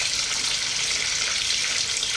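running shower water

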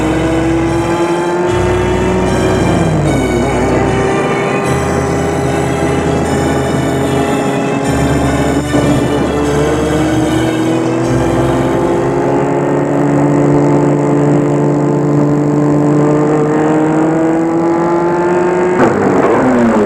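car driving then stopping

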